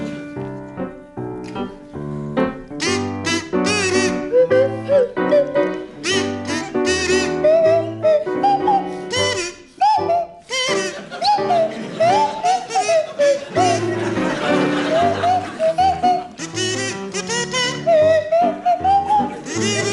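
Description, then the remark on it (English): Sandy Toksvig on a buzzy kazoo and Tim Brooke Taylor on a sliding swanee whistle play a bouncy tune together for the whole stretch, notes rising and swooping in quick, loud phrases without any talking. “to feature Sandy Toksvig on kazoo and Tim Brooke Taylor on the Swanee Whistle.”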